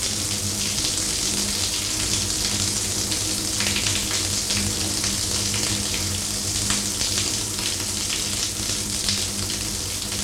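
shower running

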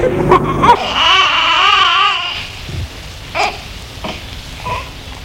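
newborn baby crying

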